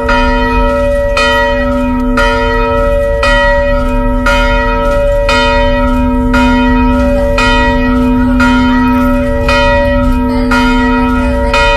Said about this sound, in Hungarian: Ünnepre hív a harangszó Vizsolyban